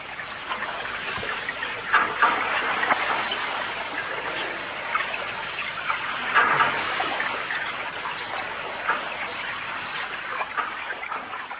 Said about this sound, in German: Nach den Erkenntnissen von Murray Schafer und seinem Team aus dem Jahre 1973 hätten Bill Fontanas Wassergänge aus dem Bodensee im alles andere als leisen öffentlichen Raum von Bregenz eigentlich begrüßt werden sollen.